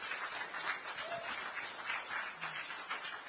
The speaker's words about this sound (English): Hallelujah. Clap your hands. Come on.